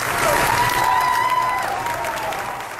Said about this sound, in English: A standing ovation? What does that say to you? That crew members were clapping and cheering for the captain as he left the ship was a sign that they trusted him, that he was acting in their best interest.